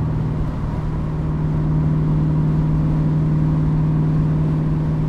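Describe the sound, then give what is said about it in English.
A car engine hums steadily at cruising speed at about 2500 RPM in fifth gear, the car in the right lane with a guardrail on the right and the windows up, a constant low drone with road and wind noise around it, fairly loud with no change in pitch. “Same kind of thing, guardrail on the right, right lane, 2500 RPMs in fifth gear.”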